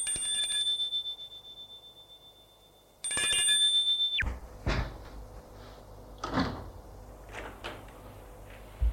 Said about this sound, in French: En début de soirée, il sonne à une porte d'appartement.